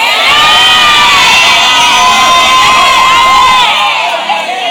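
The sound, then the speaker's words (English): A large audience shouts amen together in response to a call to shout amen, a loud, dense burst of many overlapping voices, sustained for about four seconds before quickly dropping away. “Shout amen.”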